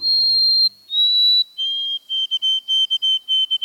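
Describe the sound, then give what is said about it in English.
A white-throated sparrow sings its clear, pure whistled song: two long sustained notes, then a quick run of repeated shorter notes on a slightly lower pitch, with no other sounds. “The white-throated sparrow's melancholy whistle is hauntingly beautiful.”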